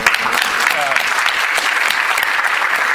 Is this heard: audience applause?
yes